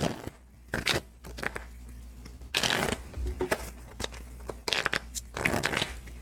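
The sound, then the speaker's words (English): A deck of playing cards being reshuffled during a game after a Joker was drawn, with several quick riffling bursts and soft slaps separated by brief pauses, no voices. “Oh, actually, I need to reshuffle because the Joker was drawn. So let's go ahead and get that shuffle on.”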